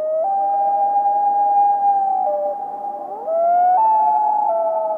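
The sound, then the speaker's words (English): A common loon's wail: long, mournful, steady-pitched tones that hold, dip slightly, then slide up to a higher note. Overlapping calls suggest more than one bird. It is loud, with no voices. “The prolonged, unmodulated tone sounds somewhat like a wolf's howl, doesn't it? We identify this as the whale call, reflecting its mournful qualities.”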